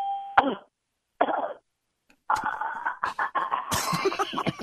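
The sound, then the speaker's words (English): Someone choking, heard over a phone call: strained, gagging coughs and rasping gasps come in irregular bursts, pause briefly, then build into a longer, sputtering run of choked, throaty noises. “John picks up the phone, but all he can make out is what sounds like someone choking.”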